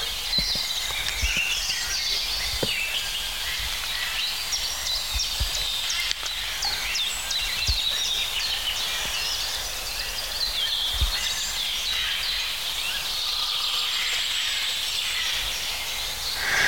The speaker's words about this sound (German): Ja, das bleibt schon der Grünspecht.